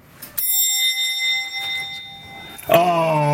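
A doorbell rings once with a bright, sustained metallic tone that slowly fades, then a voice starts speaking over its tail.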